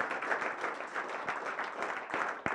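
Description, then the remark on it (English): A crowd applauds and cheers on people standing at the front, a dense, steady wash of many overlapping claps, with a few sharper individual claps standing out toward the end. “Let's cheer them on, man.”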